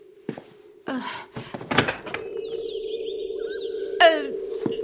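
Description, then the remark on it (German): A door opens with a few sharp clicks and thunks over a steady low hum, then a whooshing, sliding swish with rising electronic tones, fairly loud. “Und ich soll zur Tür kommen? Und sie aufmachen?”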